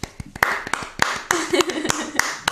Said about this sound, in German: Also für alle, wo ihr sind und du jetzt zu mir kommst, kleiner Applaus.